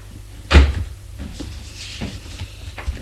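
A door opens with a sharp knock-like clack and low thump, then a few softer clicks and rattles follow over quiet background.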